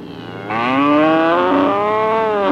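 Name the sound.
cow mooing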